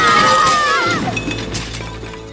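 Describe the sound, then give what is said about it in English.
Dishes crash and shatter loudly, a burst of bright ringing glass and ceramic fragments with high tinkling shards that trail off and fade over a couple of seconds. “Oh, my dishes! My glitter! It's everywhere!”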